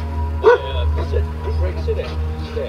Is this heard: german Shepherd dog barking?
yes